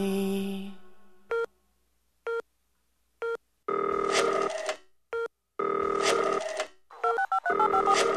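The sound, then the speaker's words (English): A telephone rings loudly with a harsh electronic tone, first as a few short beeps and then as longer repeated bursts, with no voices. “I hate cell phones.”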